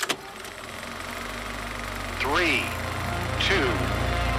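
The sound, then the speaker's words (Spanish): An engine cranks over and catches, then settles into a steady low rumble, with two brief rising whines cutting in over the running motor. “Pour it in and power on.”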